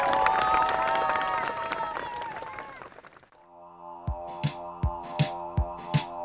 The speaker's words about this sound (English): Thank you, round of applause, guys.